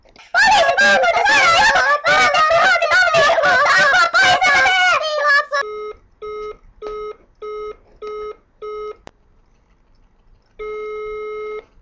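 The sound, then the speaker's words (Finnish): A voice at the start gives way to a run of six short, evenly spaced electronic tones, followed after a brief pause by one longer, steady beep from an emergency centre's telephone answering machine, clear. “Ole ystävällinen ja jätä viesti äänimerkin jälkeen.”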